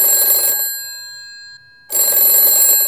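A telephone rings loudly with a bright, buzzing bell tone as the national police in Nice call a young man's parents: one ring fills the first half second, then after a brief pause a second ring starts, with no one talking.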